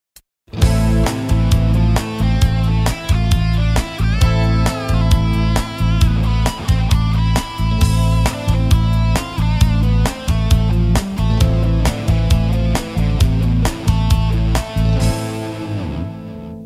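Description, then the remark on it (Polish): A steady, driving rock passage in the A Aeolian minor scale, with an A minor tonic chord, full band backing and a regular pulsing beat, played loud for about fifteen seconds before fading at the end. No talking. “Skala eolska molowa jest chyba najczęściej używaną skalą w muzyce rockowej.”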